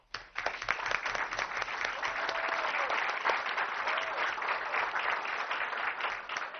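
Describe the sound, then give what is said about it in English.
An audience breaks into sustained applause for the teachers of West Covina, a dense wash of many hands clapping at a steady, fairly loud level that continues throughout, with no one speaking over it. “So I'd like to applaud all of you and your colleagues for being the great teachers of West Covina.”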